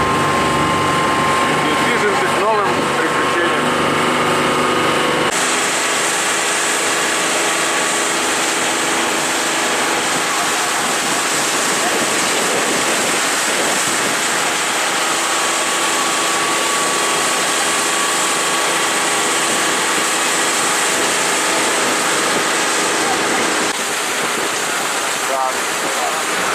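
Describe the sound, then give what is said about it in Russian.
A loud, steady boat motor drones continuously, a dense roaring hum with a brief shift in tone near the start, and faint voices barely audible beneath it, recorded from the moving boat. “Мотора, друзья, не может заглушить наших восторгов.”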